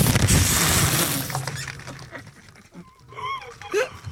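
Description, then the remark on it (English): Hot metal, heated to just before melting, being hammered to refine it and squirt out slag impurities: a loud, harsh burst of strikes and crackling for about a second and a half, then fading into quieter clatter with a voice murmuring near the end. “Yeah, I'm getting it to the point just before it melts, and you can hammer it and squirt some of that slag out.”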